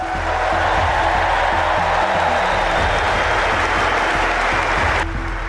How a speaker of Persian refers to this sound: تماشاگران حاضر در سالن مسابقات بعد از اعلام نام اسطوره تنیس چندین دقیقه ایستاده تشویقش کردند.